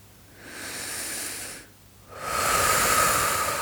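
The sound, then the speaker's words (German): A slow, deep breath drawn into the belly and then released, each phase a soft airy rush, the exhale longer and louder than the inhale, with no talking. “Atme tief bis in den Bauch hinein und atme tief wieder aus.”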